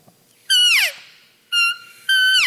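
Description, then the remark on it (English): Three loud, nasal mewing notes from a hand-blown open reed cow elk call, each a high reedy tone rich in harmonics; the first and last slide downward in pitch, the middle one short and steady, no talking. “This is a good cow elk.”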